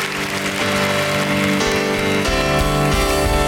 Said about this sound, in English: Would you thank the Lord with a clap offering?